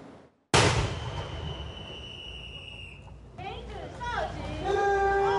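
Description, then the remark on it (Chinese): A single loud cannon shot from a 21-gun salute in front of Taiwan's Presidential Office, as President Lai Ching-te steps onto the podium to give a speech, booms out after a brief silence and rings on with a long echo; a murmuring crowd and voices rise afterward. “在21响礼炮声中，台湾总统赖清德步上总统府前的讲台发表演说。”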